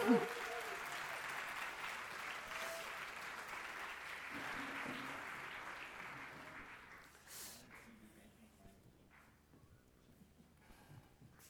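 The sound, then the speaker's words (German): An audience applauds the band steadily for several seconds after a song, the clapping dense and sustained before thinning out and fading toward the end, with a few scattered claps and murmurs left. “Ein kurzer Applaus für die Band, die waren Hammer.”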